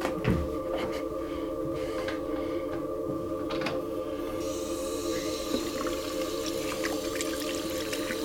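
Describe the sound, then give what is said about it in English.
Water runs steadily into a bathroom sink with a humming, tonal undertone, broken by a few brief splashes and drips as a person splashes their face. No one speaks. “I splash my face.”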